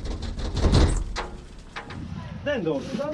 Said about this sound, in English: The lead man bangs on a door. After repeated bangs, an elderly woman comes to the door and he says, good afternoon.